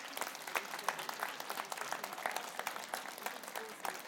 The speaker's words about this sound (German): Applaus.